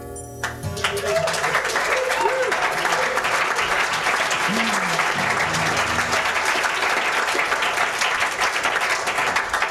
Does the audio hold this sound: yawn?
no